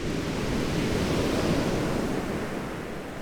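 Sea waves break on a beach in a steady rushing roar that swells slightly and then eases, with no voices present.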